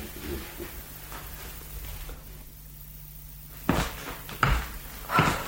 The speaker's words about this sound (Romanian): Și închide ușa